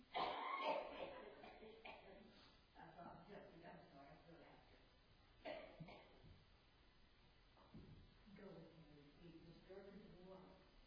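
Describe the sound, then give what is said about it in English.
An audience member coughs repeatedly in short, rough bursts, with muffled voices and low background noise between the coughs. “I'd rather hear your coughing than a cell phone.”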